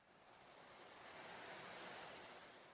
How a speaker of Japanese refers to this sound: 波の音があなたの体の中を通り抜けてゆく。それは、お母さんのお腹の中にいた時のような、懐かしい匂いのする音。